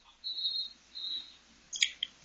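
Two sustained, shrill whistle blasts sound one after another, then a quick burst of shorter, chirpy whistle notes. The whistling is fairly faint and no one speaks.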